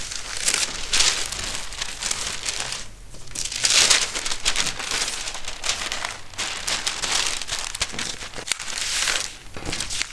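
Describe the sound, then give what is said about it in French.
Continuous rustling and crinkling as sewing fabric is laid flat and a paper pattern is placed on top of it, with soft swells of papery crackle and no talking. “Je commence par mettre mon tissu à plat. Dessus, je mets le patron.”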